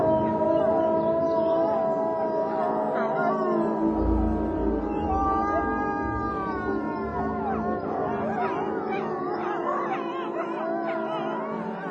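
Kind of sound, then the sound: animal, wolves howling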